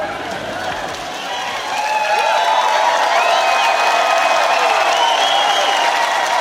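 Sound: audience applauding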